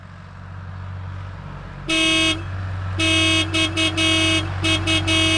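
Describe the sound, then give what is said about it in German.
Car horns honk repeatedly over a steady low rumble of road traffic: one blast, then a long sustained honk broken into several short toots, loud. “Stefan sitzt alleine im Auto, wie viele andere.”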